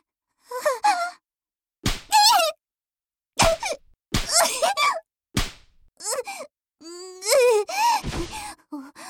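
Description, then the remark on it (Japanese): Sharp spanking slaps land on buttocks about five times at irregular intervals, each quickly followed by loud, high-pitched wailing and yelping cries from a voice. “お尻を叩くなんて子供じゃあるまいし、私をバカにしてるの。”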